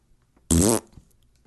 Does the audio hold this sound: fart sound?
yes